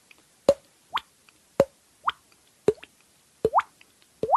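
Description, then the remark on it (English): A mouth imitating water drips: a series of about eight hollow cheek pops, each with a quick upward-bending pitch, spaced roughly every half second with no talking. “And he said, "You can do that with your mouth." And he popped it on his cheek.”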